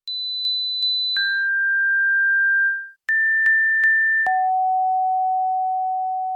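Pure sine test tones play with no voices: a high tone pulses three times, then drops to a long, lower held tone. After a brief gap, the pattern repeats, ending on a still lower sustained tone.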